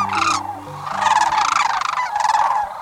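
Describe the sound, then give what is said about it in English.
A pair of courting sandhill cranes at sunrise on a southwestern marsh in late February gives a loud, rolling unison call, overlapping trumpeting bugles in repeated bursts, strong, with a faint low musical tone underneath and no voices. “In the rosy glow of a sunrise on a southwestern marsh, a pair of sandhill cranes calls in unison.”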